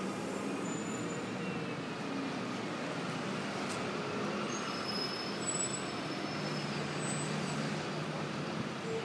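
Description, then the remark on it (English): Steady roadway rumble as city buses pass a bus stop without stopping, with engine drone, occasional high squeals like brakes, and a constant wash of traffic noise throughout. “Well, no shortage of buses, just none of them stopping at this stop.”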